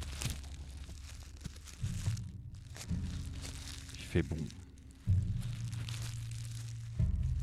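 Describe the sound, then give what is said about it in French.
Crunchy, crackling footsteps on dry dead leaves recur at a steady walking pace during a walk in a forest, with a man speaking briefly over them and a low rumble underneath. “Quelques feuilles mortes à nos pieds.”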